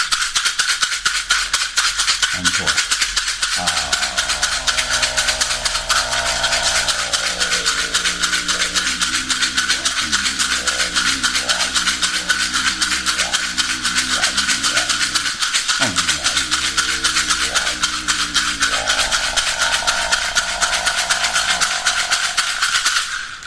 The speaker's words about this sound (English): And then we'll work with the rattle.